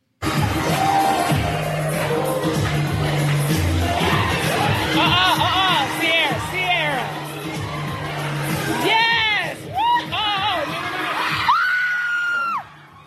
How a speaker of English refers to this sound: Now, what happened at that moment as that person screamed is she literally slips off the banister and it looks like she's about to plummet to her death. This is a high second floor.